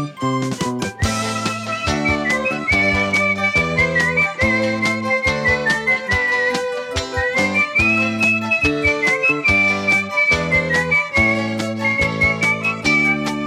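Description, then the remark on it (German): A bright, steady whistled melody carries along over a full, bouncy instrumental accompaniment with a regular beat, cheerful and continuous throughout. “Und auch für euch will ich sorgen, denkt nicht ängstlich an morgen, und so pfeif ich munter meine Melodie.”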